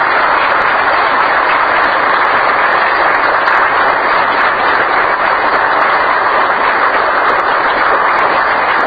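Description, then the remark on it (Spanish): A crowd applauds steadily for the whole stretch in thanks to the family who donated the land for the new building. Many hands clap into a dense, even wash of sound that stays fairly loud and constant, with no voices on top. “Un aplauso.”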